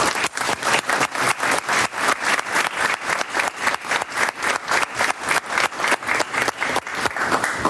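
A crowd applauds steadily for several seconds, a dense, even wash of many hands clapping with a faintly rhythmic pulse, fairly loud and with no voices over it.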